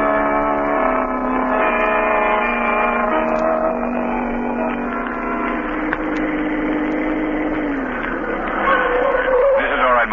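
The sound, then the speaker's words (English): A car engine drones steadily throughout, a continuous, fairly loud running hum as the vehicle drives along, with a slight swell in intensity near the end. “Park the car right here.”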